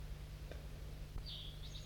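crossbill calling

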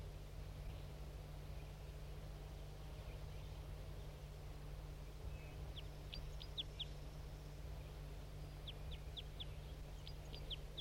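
birds singing

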